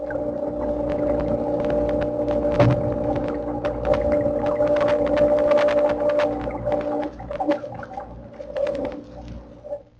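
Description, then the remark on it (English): A submarine's own generators, heard as own-ship noise on its listening gear, drone in a steady, layered hum of sustained mid-pitched tones, scattered with sharp irregular clicks and ticks; the hum thins out near the end, and no one speaks. “When you were learning how to operate this gear, you learned these noises would give you away, your own generators.”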